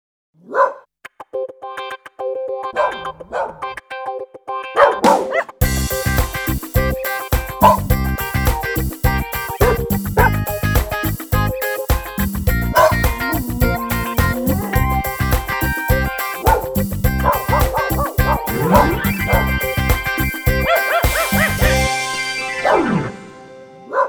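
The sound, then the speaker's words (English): A few scattered yips open, then a loud, dense chorus of dogs barking and yipping takes over, overlapping continuously for a long stretch before tapering off near the end. “Americans have fallen in love with their dogs.”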